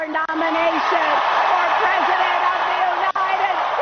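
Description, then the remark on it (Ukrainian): A large audience at the Democratic Party convention applauds steadily and loudly as Hillary Clinton accepts the nomination for US president, a dense wash of clapping mixed with cheering voices that holds at an even level for the whole stretch. “Під оплески аудиторії заявила Клінтон.”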